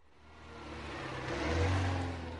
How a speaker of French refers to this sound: Le taxi démarre.